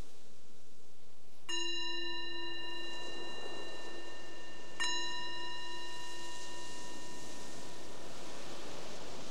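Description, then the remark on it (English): A meditation bell is struck twice during a guided meditation, a few seconds apart, each strike ringing out in clear layered tones that sustain and slowly fade over a soft hiss of background noise. “The bell is the invitation to let go of whatever you were doing before and just checking in with ourselves.”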